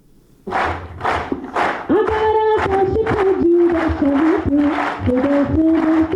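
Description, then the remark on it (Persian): Loud, steady rhythmic clapping in unison, about two claps per second, joined by a group of voices chanting together. The applause cheers 11 disabled soldiers of the Afghan National Army who are soon heading to Canada for a world competition called 'Invincible', at an event held by the army's training center. “این صداها و چک چک از بحر تشویق 11 سرباز معلول اردوی ملی افغانستان است که قرار است به زودی برای شرکت در مسابقات جهانی موسوم به شکست ناپذیر وارد کانادا شوند.”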